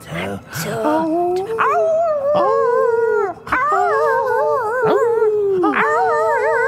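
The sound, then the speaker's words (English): Several dogs howl together in long, wavering, overlapping cries that rise and fall, with a few sharp yips breaking in; the chorus is loud and carries on without pause. “Oh, yeah, howling.”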